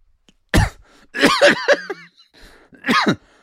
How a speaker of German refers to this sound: Boah, dieser Husten, der macht mich richtig kaputt.